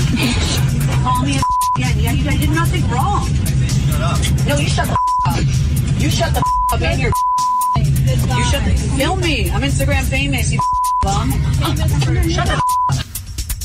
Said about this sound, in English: Here is the clip. It's heavily beeped, by the way.